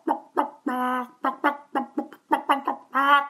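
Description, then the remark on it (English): A person imitates a bird into a phone with a quick string of about ten short, squawky clucking calls, two of them drawn out longer, fairly loud with no other sounds. “So as a result, we have an unexpected extra benefit of this collection of bird impressions and whistling and squawking children and other things.”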